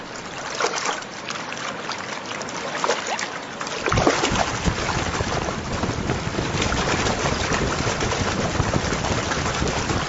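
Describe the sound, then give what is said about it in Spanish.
Pelicans moving on the water as they begin to take flight: steady splashing and dribbling that swells into a louder, continuous rush of churned water about halfway through. No voices are heard. “Sonidos de los pelícanos en el agua.”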